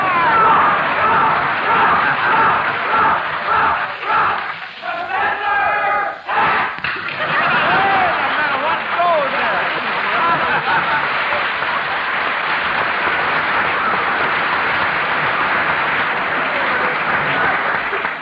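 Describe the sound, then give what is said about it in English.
A loud audience cheering section at a quiz contest cheers and applauds continuously, with whoops and shouts mixed into a dense wall of clapping that holds steady throughout, briefly dipping before swelling back up. “Like the professors have brought their own cheering section.”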